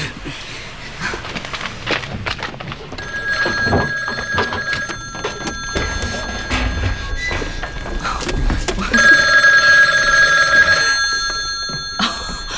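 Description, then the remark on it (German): An old-style telephone bell rings in two long metallic bursts, the second louder, over a busy background of footsteps, thumps and shuffling movement. “Oh, ich muss ans Telefon.”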